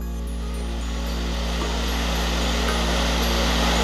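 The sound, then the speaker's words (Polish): Foul-smelling volcanic gas rushes out of the ground on a volcano in a steady, unbroken roar and hiss, loud and even throughout, with a low rumbling drone underneath and no voices. “Słyszycie to? To wylatujący gaz pod ziemi.”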